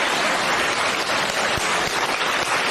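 A crowd applauds steadily, a dense wash of many hands clapping at a fairly loud, even level throughout, with no voices standing out.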